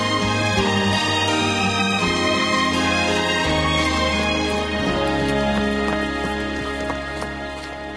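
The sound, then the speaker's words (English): The hooves of a burro being ridden clip-clop in a steady walking rhythm beneath continuous, sustained music, the hoofbeats sounding more distinct in the second half as the music thins slightly. “I like riding a horse when you don't have to win anything.”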